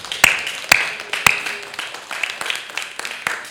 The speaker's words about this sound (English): Give them a good hand clap as they go this morning.